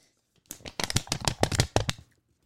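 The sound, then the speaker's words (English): Paper being unfolded and snapped open: a quick series of crisp, crackling rustles and sharp snaps, fairly loud, lasting about a second and a half with no talking. “The paper snaps.”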